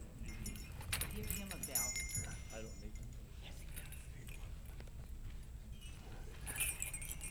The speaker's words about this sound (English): Tonight's service, the liturgy is the sermon. It's a bell-ringing service. Did you bring your bells? Okay. I brought some extras here, a few.